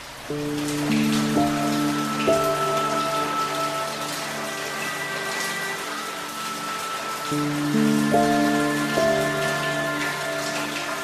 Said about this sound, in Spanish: Veo a través de mi ventana como pequeñas gotas de lluvia tintinean sobre el cristal, se estremecen bajo la suave caricia de la brisa, zigzaguean y se deslizan hasta morir en el alféizar,